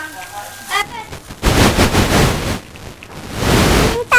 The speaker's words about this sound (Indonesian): Main petasan di Jawa. Nih, di sini yang main petasan.